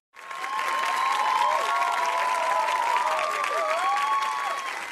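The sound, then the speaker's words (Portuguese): A TV studio audience gives sustained applause for the day's guest, loud and dense, with faint whoops and cheers rising through it, continuing steadily from start to end without any speech. “Tem que aplaudir mesmo, tem que aplaudir muito.”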